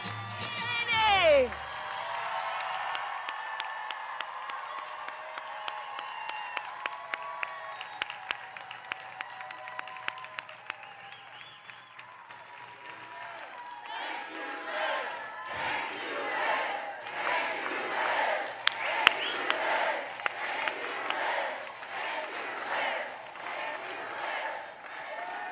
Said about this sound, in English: This is such an exciting time, going from people chanting, "Thank you, Liz," to now cheering Kamala Harris coming out. We'll have to see what happens, of course, but she is now at the podium.